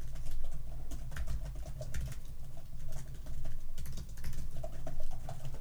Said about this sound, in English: Stop typing so loud, please. When are you ever going to accept the fact that I type at the volume I type?